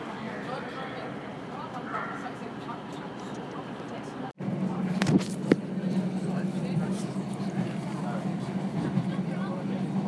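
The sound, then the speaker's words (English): Steady rumbling clatter inside a moving train carriage on the Esk Valley line, travelling through countryside on a nice day, briefly cut off, then resuming as a louder, droning hum with a few sharp clunks. “a slightly more comfortable position on the train, it's been a very pleasant journey.”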